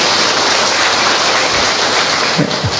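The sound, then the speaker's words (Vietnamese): A crowd breaks into a round of applause to greet three guests who have stood up. Many hands clap in a dense, steady patter that stays loud for the whole few seconds, with no voices over it. “Ôi, chúng ta cho một tràng pháo tay chào 3 bạn.”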